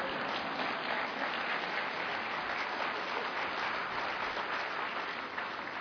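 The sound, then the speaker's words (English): Steady audience applause during a talk on vaccination savings, a dense wash of many hands clapping at an even loudness for about six seconds, with no voices rising above it. “Now, when I practiced this talk with my husband, he burst into applause. So it's okay if you do too.”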